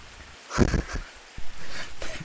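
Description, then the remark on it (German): Rain falling outdoors as a soft, steady hiss, broken by a few louder bursts and dull low thumps; no one speaks. “Ich habe heute einen ziemlich guten Tag und es regnet doch gerade.”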